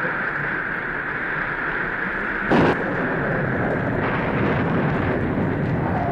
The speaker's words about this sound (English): Entreat your God to stop the mighty thundering and hail, and I will let you go even into the wilderness to worship and sacrifice unto your God.